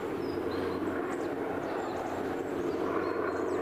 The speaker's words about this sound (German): Ja, da ist ein Hubschrauber.